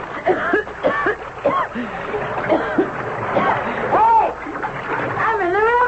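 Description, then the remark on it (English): Water splashes and sloshes as a man is dropped over the side of a boat into the Nile, while excited voices shout and call out over the churning sound throughout. “You lift up the suspicious character, so... Come on now, put me down.”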